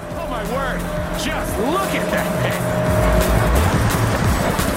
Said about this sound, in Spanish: Pero se nota, pero igualmente Sony V8, ¿eh? Qué bonito, qué bonito. Me gusta cómo suena este coche.